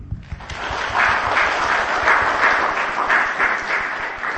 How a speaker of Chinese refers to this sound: 感谢主，我们今天在主里多了四位家人，我们用掌声来欢迎他们，并且感谢我们的主。